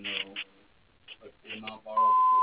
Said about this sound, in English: Please leave your name and a detailed message after the beep. Thank you, and have a good day.